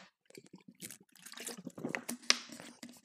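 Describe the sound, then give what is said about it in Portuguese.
Someone takes a drink of tap water from a water bottle: a quiet run of short wet slurps and swallows, with soft liquid trickles and one sharper click near the end. “Não, vou só dar um sip numa garrafa de água da torneira.”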